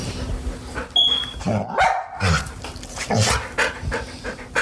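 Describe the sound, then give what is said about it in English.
A pet owner's dog, adopted from an animal shelter in Fresno County, barks in a few short bursts, with heavy panting and snuffling filling the gaps between them; no one speaks. “It's amazing having my own dog.”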